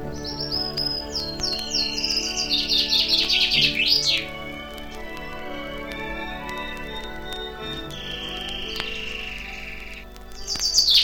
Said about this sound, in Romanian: ascultând trilurile felurite ale păsărilor și susurul cristalin al izvoarelor.